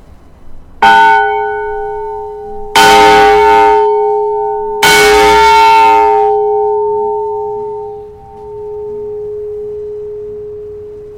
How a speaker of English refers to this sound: Levon is going to chime the bell that used to serve as an emergency warning of a